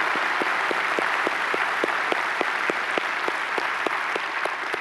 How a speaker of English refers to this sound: Would you give them a round of applause for joining us right now? Thank you for being with us.